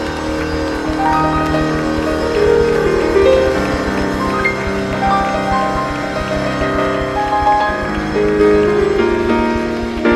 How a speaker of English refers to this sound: Let's clap hands for Jesus one more time. Clap, clap, clap, clap, clap, clap, clap hands for Jesus one more time.